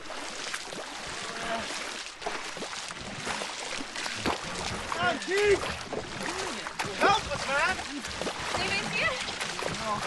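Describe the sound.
Water splashes and pours in an irregular churn as a boat is bailed and paddled, a cool box lid used as the paddle, with urgent voices talking and calling out over the steady wash.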